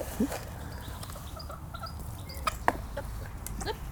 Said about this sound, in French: Petite poule. Hop, là, tu peux tendre la main. Oh, elle m'a fait peur. Restez sur moi. Allez, ouais, elle a peut-être un petit peu peur, non? Bah, ça va, là, je la tiens, ouais. Donc ça, c'est une poule, c'est une des poules soie.